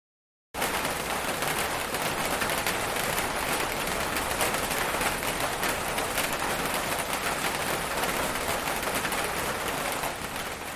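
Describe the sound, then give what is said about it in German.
Heavy afternoon tropical rain with large drops drums steadily on tin roofs, a dense, loud, continuous patter of countless sharp impacts that stays even throughout, with no voices. “Tropenregen auf Blechdächer trommeln zu hören, ist ein Erlebnis.”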